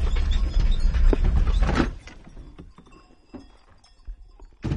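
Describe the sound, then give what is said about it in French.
Cowbells on about 25 grazing cows, each bell marked with the breeder's number, clank and jangle irregularly over a low rumbling background, loud at first, then thinning to scattered knocks and rings before a final burst at the end. “Normalement, ils ont toutes les cloches à la montée puisque on met le numéro de l'éleveur sur la cloche.”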